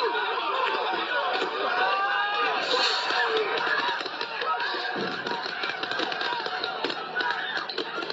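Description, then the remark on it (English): A large crowd outside the White House shouts, jeers and taunts officers continuously while law enforcement fire pepper spray, with scattered sharp bursts cutting through the dense, noisy din of voices. “You can hear law enforcement firing pepper spray as crowds taunted officers.”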